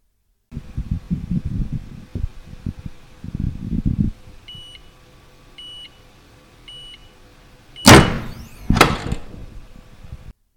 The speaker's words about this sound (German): Jetzt ist das T-Shirt beschichtet. Damit diese Beschichtung nicht abgeht, wird sie mit einer Presse fixiert.